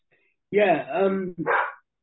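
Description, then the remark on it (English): A dog in the background barks twice in quick succession, a long drawn-out bark followed by a shorter one, fairly loud with no one talking. “Sorry, the dog in the background barking.”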